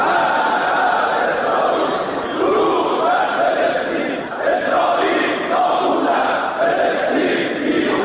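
Members of Iran's parliament, the Islamic Consultative Assembly, chant the slogan "Death to Israel" in unison at the opening of their Saturday session. Many voices shout loudly and continuously in a rough repeating rhythm, with no break in the dense roar of voices.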